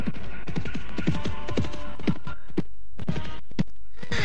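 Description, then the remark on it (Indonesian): Horse hooves clip-clop in a steady, brisk rhythm as horses ridden by men approach, a run of sharp knocks against a low rumbling hum, moderately loud with no voices. “Suara langkah kuda menuju ke arahku.”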